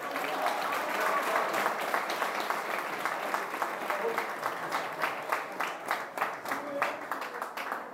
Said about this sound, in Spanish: Un aplauso para él.